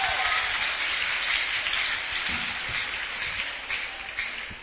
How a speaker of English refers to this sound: Can we clap our hands for Jesus?